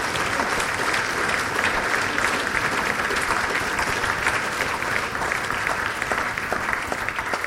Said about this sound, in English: A round of applause for being willing to do that.